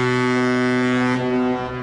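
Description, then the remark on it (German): A deep, sustained cruise ship horn blasts loudly and steadily for nearly two seconds, its rich low tone holding a constant pitch before easing slightly at the end, with no one talking; the Symphony of the Seas or another large cruise ship docking at the port of Barcelona. “Wenn am Hafen von Barcelona die Symphony of the Seas oder einer der anderen Ozeanriesen anlegt, hört sich das so an.”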